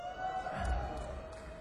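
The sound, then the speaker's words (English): A small audience cheers and claps, with scattered whoops and hand claps over a steady, murmuring crowd noise, moderately loud and without any clear speech. “I hear a few people that are wooing and clapping.”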